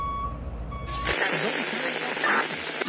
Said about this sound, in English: Here we are. We're teaming in on the AAA My Slice of Pizza Parlor. Okay. In Waycross, Georgia. Yeah. I'm getting some voices. I hear a little static. We're cutting in. Any moment now.